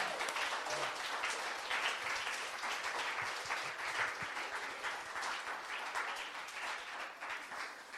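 Steady audience applause for a guest speaker at the close of a talk, a dense wash of many hands clapping at once, sustained and fairly loud for the whole stretch with no talking over it.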